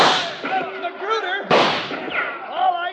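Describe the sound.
Two loud, sharp gunshots crack about a second and a half apart, each trailing off in a rough echo, while excited voices shout and talk underneath throughout, during a shootout on a cattle drive.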